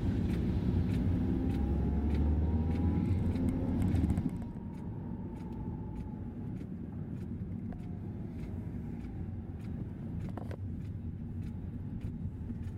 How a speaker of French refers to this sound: Le velouté des roues qui ronronnent sur l'asphalte et la combinaison sonore des roues dans l'eau sur l'asphalte.